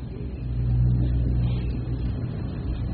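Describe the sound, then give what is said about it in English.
Car engines rumble low and steady as the seven automobiles of President Kennedy's funeral procession, carrying Mrs. Kennedy, Robert Kennedy and Edward Kennedy, pull away toward the White House, the drone swelling briefly as one accelerates, then settling into a continuous hum. No one speaks. “There are but seven automobiles in this procession, but as they go back to the White House,”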